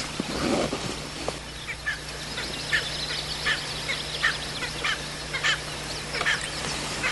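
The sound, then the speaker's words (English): Outdoor bird calls repeat in quick, uneven bursts, with a cackling, laugh-like quality. A steady low hum runs beneath them and no one speaks. “There's some funny sounding birds.”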